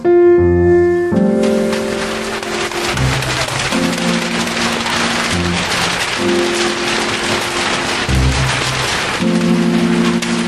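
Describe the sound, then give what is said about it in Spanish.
Steady, dense rain hisses continuously throughout, blended with sustained musical chords that shift every few seconds; no voices, and the rain stays fairly loud and even from start to finish. “Quiero decir que llueve, Platero, llueve.”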